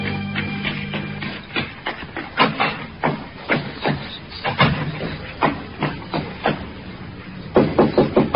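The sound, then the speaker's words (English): A long run of sharp wooden knocks on a door, irregularly spaced and ending in a quick flurry of raps, with a low steady hum at the very start and no voices. “I waited for her knock.”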